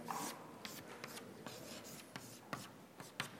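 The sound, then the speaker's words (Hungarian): Scratchy writing of a vector hat symbol over the momentum term during a physics lecture derivation, a series of short, sharp strokes in an irregular rhythm, with a soft continuous rubbing between them and no voices. “Kérem szépen, vektorkalap, beírom.”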